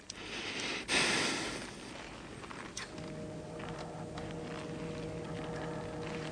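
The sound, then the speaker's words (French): Tense, heavy breathing of a player at a table trying to remove a red stick from a pile of sticks without moving the pile, with a loud rushing exhale early on, then quieter sniffs and breaths over a steady low electrical hum. No one speaks. “Mes chers amis, vous entendez la respiration du joueur.”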